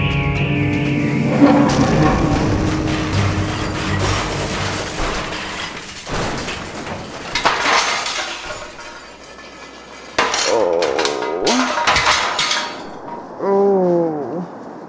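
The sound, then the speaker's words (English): A plane crash-lands on a beach just short of the runway on Canton Island: a long, chaotic sequence of heavy rumbling impacts and scraping, with glass shattering and tinkling amid metallic clatter, ending in groaning, creaking strain. No one speaks. “Looks like we crashed on the beach just short of the runway.”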